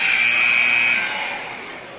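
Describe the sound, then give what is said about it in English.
A loud, buzzing timeout horn at a basketball game between Glenwood and Rifle blares as one steady, harsh electronic tone for about a second, then tails off into lingering crowd noise. “Don't make him honk the horn a third time. Right? It's too loud.”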